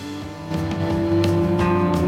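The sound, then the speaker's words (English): A distorted electric guitar drones with a thick, engine-like growl, imitating a revving car. It stays loud and steady for about two seconds, with a few sharp percussive hits and no voices. “Yeah, there's the car sound on the guitar.”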